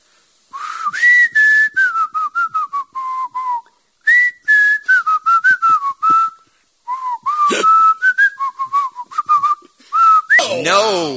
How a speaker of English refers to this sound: I'm going to whistle one of the songs that will be performed Saturday at the K-Rock Weenie Roast Fiesta 2009.